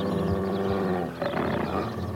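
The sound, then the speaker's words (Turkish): A rabid dog growls and snarls as it comes toward the listener, in a deep, rough, continuous rumble, loud throughout with a short dip midway before the snarl surges again. No one speaks. “Bir köpek sesi geliyor.”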